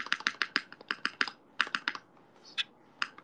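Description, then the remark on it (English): A 7U keyboard space bar pressed over and over, producing crisp clacks in a quick, uneven rhythm, about fifteen presses with short pauses, and no voices. “Oh, space bar. Space bar. Okay, here we go. 7U space bar.”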